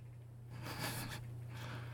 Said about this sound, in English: Okay, sniffing my chest is one thing, but you squeezing my gumdrop buttons like that?